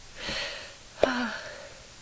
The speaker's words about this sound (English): Lots of sniffing going on